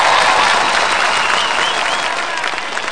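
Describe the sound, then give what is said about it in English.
A large arena crowd cheers and applauds steadily, a dense roar of clapping and whistles that stays loud throughout and only eases slightly toward the end. “Listen to this cult-like intensity buzz throughout our arena.”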